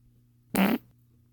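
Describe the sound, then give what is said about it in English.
A single short, loud fart, a quarter-second buzzy burst over a faint low hum, with nothing else happening before or after it. “I can't believe my boyfriend has a fucking fart fetish.”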